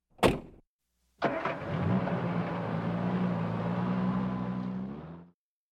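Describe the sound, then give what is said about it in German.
A car door thuds shut, then after a short pause an engine starts and runs steadily as the car, carrying police officers, pulls away loudly, heading for an old warehouse, before cutting off abruptly. “Sie steigen zusammen mit Oskar und Vater Michael in ein Auto und machen sich auf den Weg.”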